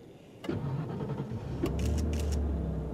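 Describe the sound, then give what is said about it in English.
A Nissan Almira's engine cranks and catches with a sharp click, then settles into a steady low rumble that builds as the car pulls away, heading east on Enway Road at 6 p.m., with a few brief whirring bursts on top. No one speaks. “We're off. Going east on Enway Road.”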